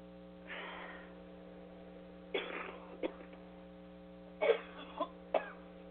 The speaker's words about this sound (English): Coughing always helps kickstart the heart. I've got heart and lung issues for a couple years now, so on top of the crap they cause, it doesn't help. A lot of fluid in my lungs I've been battling for years.